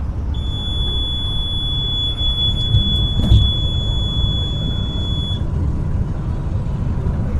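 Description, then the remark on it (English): The speed-limit alarm on an international bus from Mexico to Chicago, which sounds every time the driver goes over the speed limit, gives one steady, piercing high-pitched tone held for about five seconds, then cuts off, over the constant low rumble of the moving bus. No one speaks. “Buses inside Mexico are equipped with alarms that sound every time the driver goes over the speed limit.”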